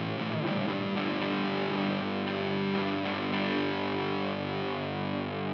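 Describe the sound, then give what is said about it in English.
A heavily distorted electric guitar rings out in a thick, sustained wash, with the distortion turned all the way up and reverb being dialed in trailing behind it. It is loud and steady throughout, with no talking. “Dial in some reverb.”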